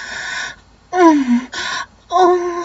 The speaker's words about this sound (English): Gasping.